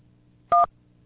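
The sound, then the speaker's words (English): A single short telephone keypad tone, as 1 is pressed on the automated phone line of Rose Proler Incorporated to reach a representative, a crisp two-pitch DTMF beep lasting a fraction of a second, sounding clearly over a faint low hum with no voices. “Please press 1 to speak to a representative.”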